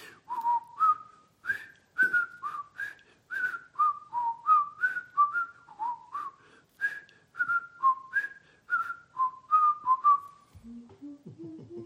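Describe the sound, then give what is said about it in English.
A man whistles a cheerful, bouncy 1960s TV show theme tune, a steady run of short melodic phrases that ends with a few lower notes. “Bonnie and I have been watching particular reruns of some movies, and let's see if I whistle it.”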